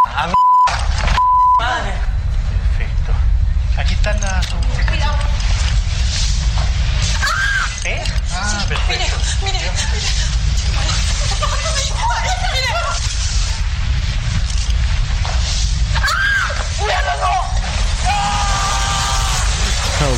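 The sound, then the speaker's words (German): A crowd of people screams and yells in panic as a comet hurtles at great speed toward a city, shown on a high-definition TV screen, many overlapping voices loud and continuous throughout, preceded by a brief electronic beep at the very start. “Ja, viel Geschrei also.”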